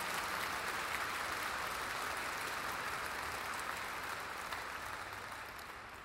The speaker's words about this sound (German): Jawohl, super gemacht, vielen Dank. Ich denke, das ist ein warmherzigen Applaus wert.